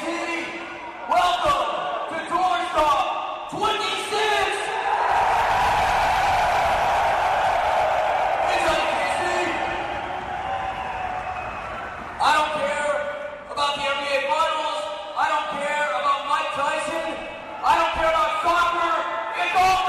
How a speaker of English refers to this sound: That was Kansas City, and I think there was about 14,000 people in that arena. I think. Maybe 12? That's how the tour stops sounded back in the day.